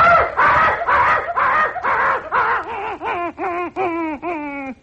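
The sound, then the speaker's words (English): A person at a microphone imitates a frightened dog with a rapid run of breathy yelps that turn into high, wavering whimpers, each rising and falling in pitch, about a dozen short cries in all, fairly loud. “A dog who's afraid.”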